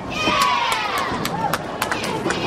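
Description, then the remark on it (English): The UCF college bowling team cheers after a teammate bowls a strike: a dense burst of excited shouts and whoops from several voices, loud and sustained, with sharp clattering knocks scattered through it. “That's my favorite cheer, because that means she got a strike.”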